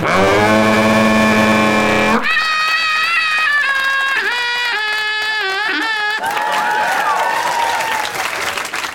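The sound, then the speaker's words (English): A voice imitates a sheep at a show during the Edinburgh Festival, letting out a series of wavering, quavering bleats at a mid pitch, followed by a burst of noisy crowd reaction. “Was a sheep.”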